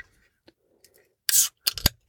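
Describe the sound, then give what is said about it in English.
A can of 7% beer is cracked open, a sharp airy hiss of escaping gas followed by a few quick metallic clicks and snaps, with no talking. “So I'm going to go ahead and I'm going to crack this sucker open.”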